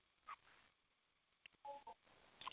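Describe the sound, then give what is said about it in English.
Several short touch-tone beeps from a telephone keypad, pressed in an irregular sequence with brief pauses between them, quiet against a faint background hiss; *6 is pressed on a phone to join the question queue of a call. “So if you want to ask a question of Gordon Ferry, you press *6, and you will be put into the queue, *6.”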